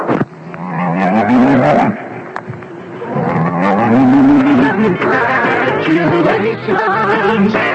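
A cow moos in long, drawn-out calls that rise and fall in pitch, loud, running almost continuously for several seconds with only a brief break.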